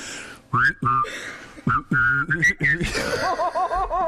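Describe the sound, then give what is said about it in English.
Someone whistles a bright, wavering tune while humming a lower note underneath at the same time, in short bursts with brief pauses between phrases. “Can you whistle and hum at the same time? Not really. Okay, I can.”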